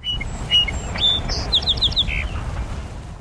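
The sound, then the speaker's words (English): A 1929 archival recording of a song sparrow singing one short phrase: a few clear whistled notes, then a quick buzzy trill. It sounds thin over heavy low rumble and hiss, like an old, worn recording. “So if we go back to 1929, this is one of the two earliest recordings in the Macaulay Library. This is the song sparrow.”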